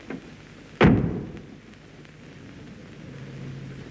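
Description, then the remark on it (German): The door of a lion cage at a zoo slams shut once with a heavy thud that rumbles briefly before fading into quiet background hiss. “hinein und die Tür hinter dir zugeschlagen.”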